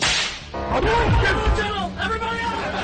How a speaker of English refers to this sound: You get two, three whips, four. It keeps going. Five.